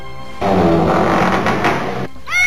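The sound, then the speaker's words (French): A cat lets out a harsh, raspy yowl, loud, lasting nearly two seconds before cutting off, then a brief higher rising cry follows. “Ça n'était qu'un chat.”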